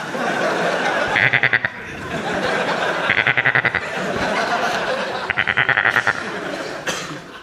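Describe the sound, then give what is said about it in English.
A goat bleats three times, each a wavering, quavering call spaced a couple of seconds apart, fairly loud over a steady murmur of background noise. “Hello, goat.”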